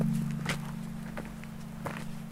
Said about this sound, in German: Stille. Es ist nichts zu hören als die eigenen Schritte. Knirschen auf Dolomitengeröll.